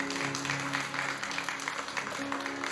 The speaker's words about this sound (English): Can I hear an amen? Amen. Hand clap to the Lord. The Lord is good to us.